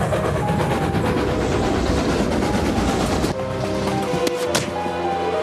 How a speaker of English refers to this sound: Stop the train! Stop it!